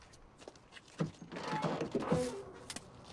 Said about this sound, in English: traipses back down the dimly lit path to his car and opens the driver's door